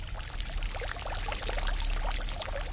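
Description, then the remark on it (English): Water pours steadily into silver metal basins, a continuous splashing rush with bright bubbling gurgles throughout and no voices; a couple of basins are filling with clear, cold, fresh water. “There are a couple of basins, and these silver basins are filling with water.”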